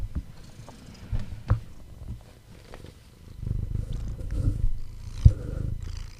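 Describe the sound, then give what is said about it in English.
A cat purrs into the microphone, a low rumbling drone that swells and fades across several breaths, with a few soft bumps and taps against the mic. “Here, purr louder.”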